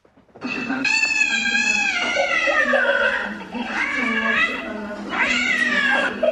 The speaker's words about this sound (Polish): To właśnie to nagranie z przeraźliwie miauczącym kotem wzburzyło wielu internautów